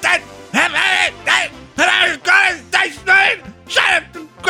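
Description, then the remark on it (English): A man bellows loud, harsh bursts of gibberish in a mock German accent, about eight shouted phrases in quick, choppy succession, strained with barely any pause between them. “German is easy to fake. You know, just screaming in that accent.”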